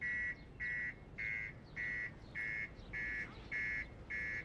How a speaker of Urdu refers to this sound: ہاں محترمہ, کہیے کیا ہوا ہے؟ آپ نے کیوں اس کا سائرن آن کر دیا؟